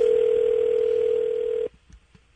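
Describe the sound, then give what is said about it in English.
A telephone rings once with a long, steady electronic tone, loud, then cuts off abruptly into near silence with a few faint clicks, as Vin Scully receives a call from the White House. “So we can actually hear the moment where Vin finds out that he's getting a call from the White House and he's getting this award, and I just think it's awesome.”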